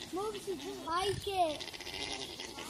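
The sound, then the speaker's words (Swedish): Alpacas making a mating hum: a steady, nasal, wavering drone that rises and falls in pitch, moderately loud, running continuously for a few seconds with soft background noise. “Nej, det är alpacker som låter så här lite kurrande så här.”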